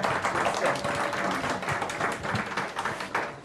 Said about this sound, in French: Bon, bah, très bien. On va applaudir alors nos invités et puis on leur dit encore merci.